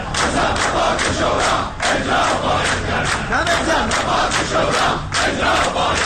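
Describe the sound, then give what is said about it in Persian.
A crowd of protesting retirees in the city streets of Iran shouts their demands for the Supreme Labour Council's resolutions loudly and continuously, voices overlapping in rhythmic bursts of chanting that rise and fall with brief dips between surges. “انتقاد این عضو کمیسیون امنیت ملی مجلس از دولت در حالی صورت می‌گیرد که بازنشستگان در خیابان‌های شهر بر عزای سفره‌های خالی نشستند و برای احقاق مطالباتشان مصوبات شورای عالی کار را فریاد می‌زنند.”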